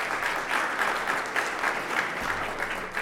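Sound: audience clapping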